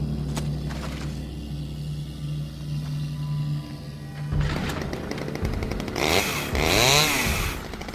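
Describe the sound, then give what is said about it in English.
A chainsaw, grabbed from an entry gate, idles with a low steady drone, then roars into loud revving, its whining pitch surging up and down in bursts with no voices. “He steps forward, grabbing Bernard's chainsaw from the entry gate.”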